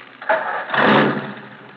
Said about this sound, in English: Now, start your engine.